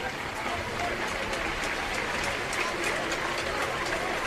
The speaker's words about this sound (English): Gets a big round of applause there.